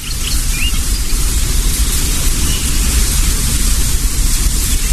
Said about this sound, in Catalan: Dels arbres, de les fulles, no? Amb el vent.